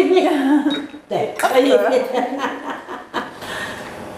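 A few sharp clinks of ice cubes dropping into drinking glasses as drinks are served, scattered between people chatting and chuckling.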